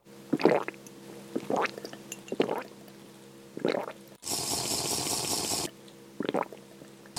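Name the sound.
drinking water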